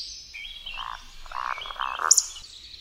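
Roding woodcock calls from males in their evening display flight: a few low, throaty croaking grunts followed by a sudden sharp, high-pitched squeak, fairly faint over a quiet background with no talking.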